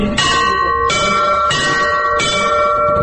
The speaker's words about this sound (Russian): Поэтому надо ударять и сразу отпускать руку. Вот так. Теперь добавьте вот эти два подзвонных колокола. Первый и второй.